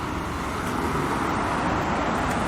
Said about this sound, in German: Ah, jetzt ist die Fähre wieder gekommen, wie man hört. Kommen wir doch eine Menge Autos hier angefahren.